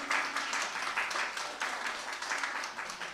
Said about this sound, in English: You can clap if you want.